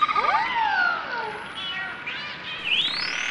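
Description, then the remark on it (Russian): Dolphins, snouts poking out of the water beside a stopped boat, squeak in a string of high, sliding whistles that swoop down and then rise again, overlapping chirpy tones with no voices, ending in a bright upward squeal. “Слышишь, как они тебя подбадривает.”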